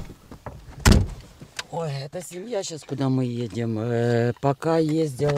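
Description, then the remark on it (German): A car door shuts with a solid thump near the start as a woman gets into the car, followed by a person speaking for the rest of the moment. “Sie sei härter geworden, sagt sie und setzt sich ins Auto.”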